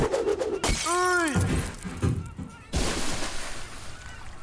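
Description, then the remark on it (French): A champagne bottle smashes against a ship's hull with a loud crash, christening the ship RMS Titanic at its launch, followed by scattered clattering and a second burst of noisy impact a moment later. “la bouteille de champagne qu'on casse sur la coque pour inaugurer le bateau.”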